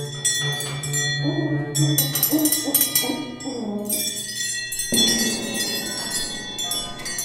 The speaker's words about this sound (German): Die anderen besorgen sich Schlägel, Stricknadeln und andere Werkzeuge, mit denen sie hämmern, klopfen, streichen und trommeln können.